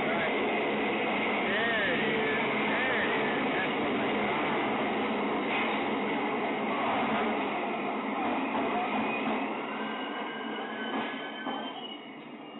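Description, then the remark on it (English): A subway train roars steadily and loudly, with metallic wheel squeals rising and falling over the dense rumble before the noise eases slightly near the end. “the Subway is my new segment of the show”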